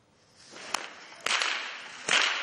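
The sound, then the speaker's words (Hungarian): Whips crack three times outdoors during a carnival parade of folk tradition keepers in Gyergyó, sharp snapping reports spaced unevenly, each followed by a burst of crowd noise and broad hiss, with no talking clearly heard. “Ostorpattogtatás, kerepelés és farsangi vidámság kísérte a gyergyói hagyományőrzők felvonulását.”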